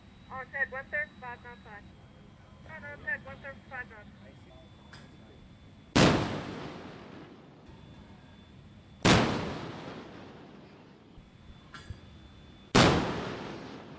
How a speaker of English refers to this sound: Once we're in position, Gunner's Mate Garcia's 5-inch cannon is the first to fire.